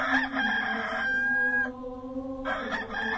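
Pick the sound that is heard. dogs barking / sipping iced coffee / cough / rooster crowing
rooster crowing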